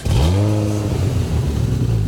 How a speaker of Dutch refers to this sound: Dacht u niet direct aan een viervoeter? Dan is het misschien tijd dat u naar de nieuwe Porsche Macan S luistert.